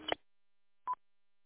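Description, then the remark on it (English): Two short electronic beeps from a one-button tuner's audible tone, separated by a pause of under a second: a brief buzzy chirp, then a cleaner, steadier tone. Both are moderately loud, with no voices. “You interested in trading audible tones? This one I got that goes up and down for that?”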